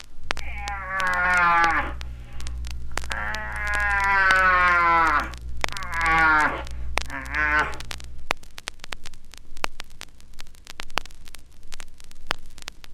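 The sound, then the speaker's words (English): A cattle call blown through a horn: four strong, moo-like blasts that bend downward in pitch over a low steady drone, followed by several seconds of crackling static. “The sound is not made in the horn, but must come from deep within you.”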